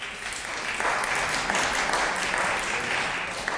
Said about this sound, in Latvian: Paldies, godātie kolēģi! Bet šos aplausus neesmu pelnījusi es, bet šeit zālē sēdošais godājumais Pabrika kungs.